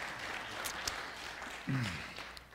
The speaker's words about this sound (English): So yeah, so give her a round of applause.